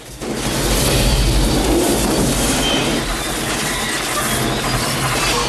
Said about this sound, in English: Roster's bus is hit by a train. It's pushed sideways along the rails as the train slows.